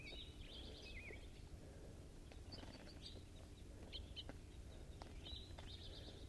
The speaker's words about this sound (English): These are the birds in the cage, fighting.